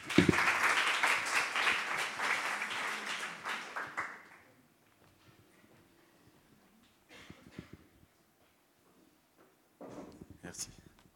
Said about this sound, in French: On peut aussi l'applaudir.